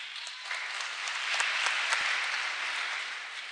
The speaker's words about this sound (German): Ich glaube, das ist an der Stelle auch nochmal einen Applaus wert.